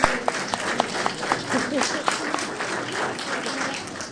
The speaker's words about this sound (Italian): Un applauso.